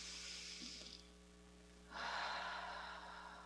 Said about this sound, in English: Taking a breath with me, breathing in and out.